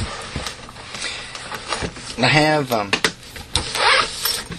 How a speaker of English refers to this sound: Chair's kind of squeaky today. Usually it's not.